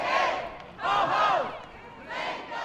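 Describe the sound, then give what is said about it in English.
A crowd of protesters shouts in unison inside the Michigan State House rotunda during December's lame duck session, three loud, echoing chanted bursts with short pauses between them. “Protesters crowded the steps and rotunda of the State House for several days of December's lame duck session.”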